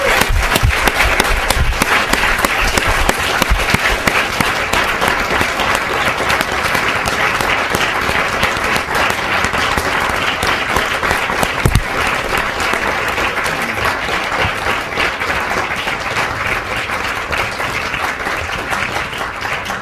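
A large audience applauds the course's teaching fellows steadily for about twenty seconds, a dense, loud wash of many hands clapping at once with no talking over it.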